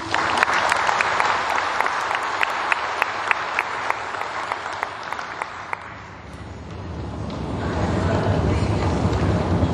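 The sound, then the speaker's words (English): A crowd applauds students with dense, steady clapping and scattered sharp claps, fading after about six seconds into a low, rumbling wash of noise. “Give those students a round of applause.”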